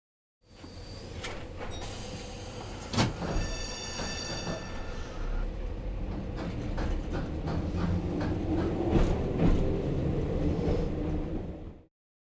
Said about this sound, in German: Die Straßenbahn.